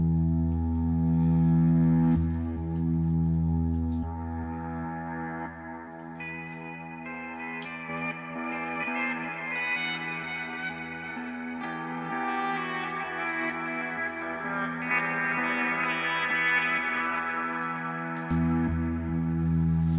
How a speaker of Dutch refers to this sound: Dan hou ik mijn volume dicht, speel ik een noot en dan ga ik hem opnemen, soms nog na de attack. En dan komt hij automatisch reversed uit.